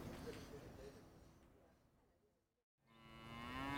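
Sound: dairy cows mooing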